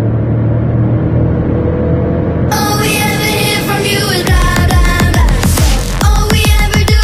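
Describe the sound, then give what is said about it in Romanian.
A Jeep's small 1-litre engine growls at a steady low idle, then climbs through a series of sharp revs with rising, rasping pitch, ending in quick throttle blips. No one speaks. “Am zis motor de 1 litru? Pe un Jeep? Zâmbiți? Ascultați cum mârie!”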